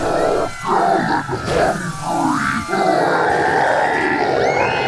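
A roaring, energized crowd in Iowa cheers continuously while a political candidate's deep, monstrous, earth-shattering bellowing and grunting rise above the din, loud, with no clear speech.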